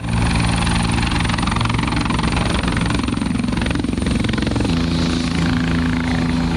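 A helicopter roars loudly and steadily, its rotor chop and engine whine filling the air without pause for several seconds, with no voices; the helicopter bringing Luigi Mangione to his place of detention.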